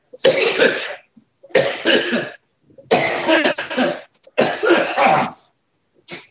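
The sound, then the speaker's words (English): Four loud, harsh coughing fits in a row from a person with an illness called belly fever, each a burst of rough hacking lasting about a second, separated by short pauses, with no talking. “The cough I have is called belly fever.”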